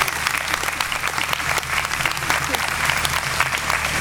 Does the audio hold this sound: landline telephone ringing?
no